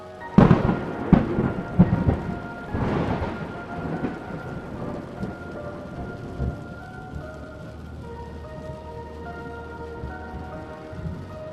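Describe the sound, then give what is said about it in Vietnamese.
A nighttime thunderstorm with steady rain: a few sharp, loud thunder cracks and rumbles early on, then fading into continuous rainfall pattering on surfaces. “để lại sự kinh hoàng trên nét mặt của ba con người trong đêm mưa bão.”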